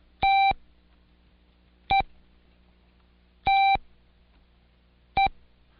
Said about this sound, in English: The International Morse Code is made up of a series of beeps. Some are long and some are short.